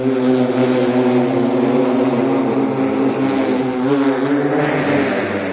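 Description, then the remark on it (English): Electric vertical takeoff and landing aircraft (eVTOL) flying, a loud, steady whirring drone of spinning rotors with layered tonal hum that holds constant, with no voices. “So technically it's an eVTOL, which stands for Electric Vertical Takeoff and Landing.”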